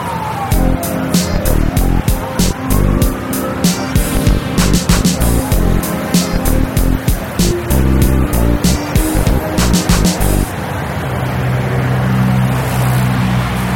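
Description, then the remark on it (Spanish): Street traffic noise, with engines and a brief siren-like sweep, mixed under loud rhythmic music with steady beats, heard through small in-ear earbuds that let ambient noise pass, with the music playing from a phone; the music drops away near the end, leaving a traffic rumble. “Dejan pasar prácticamente todo el ruido ambiente y además le suman la música o el podcast o lo que estés originando dentro de tu teléfono.”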